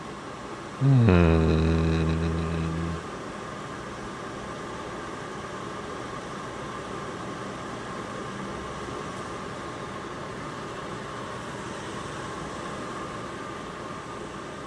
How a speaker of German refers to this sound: mit der Nummer 8, dem Föhn.